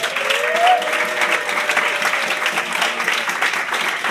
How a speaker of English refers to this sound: Let's give a big warm round of applause